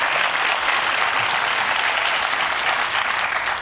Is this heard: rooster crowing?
no